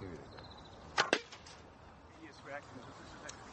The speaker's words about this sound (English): Yes, all right, he swallowed it, hasn't he? gone right through the dummy, kept only in by the fletchings. Bit of a bellyache, I reckon, yeah.